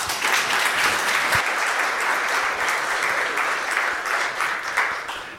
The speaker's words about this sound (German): Das ist immer die beste Kombi und damit herzlichen Dank, dass du wieder hier bist. Eine Runde Applaus bitte.